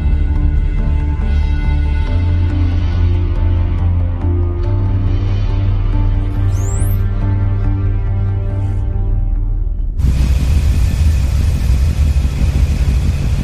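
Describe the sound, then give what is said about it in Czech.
A ship's engine, bolted to the steel hull of the ship, drones with a deep, steady low-frequency rumble. The hull acts like a drum and carries the very low-frequency noise, loud and continuous, with a harsher, broader noise surge taking over near the end. “Tento motor dělá pořádný hluk. Je přišroubovaný k trupu ocelové lodi, který slouží jako buben.”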